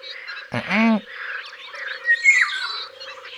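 A Eurasian golden oriole, a bright yellow and black bird the size of a blackbird, gives one loud, harsh, nasal cry from the trees, followed by fainter bird twittering and a steady low drone in the background.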